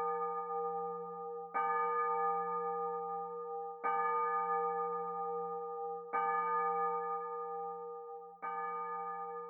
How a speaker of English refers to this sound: He heard the church clock. It was 12 o'clock.